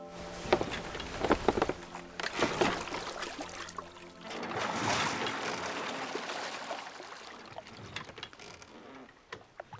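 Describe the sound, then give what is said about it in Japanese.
Water sloshes and splashes around a small boat as it crosses a small stream in a garden, with wooden creaks and knocks, paddle strokes and a steady wash of flowing water, without any voices. “そこの小川を船で渡ろう。”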